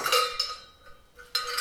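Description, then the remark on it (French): Small handmade metal bells, somewhat botched in the making and set aside, clink together in a handful of irregular strikes, each a bright, high ringing tone that lingers briefly before the next jangle. No one speaks. “c'est des cloches que j'ai fait, qu'il a envoyé pour qu'il vienne en Espagne, qui sont un peu loupées.”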